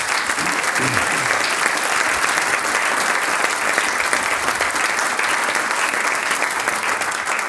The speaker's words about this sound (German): Darum darf ich mal auch um einen kräftigen Applaus vielleicht bitten.